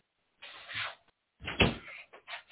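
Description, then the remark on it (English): A person shuts their door quickly, with a soft scraping swing followed by a firmer thud as it closes, then a few faint rustles. “And you know, this let me shut my door right fast. Let me shut my door.”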